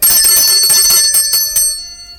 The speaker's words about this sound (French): Soudain, on sonna à notre porte.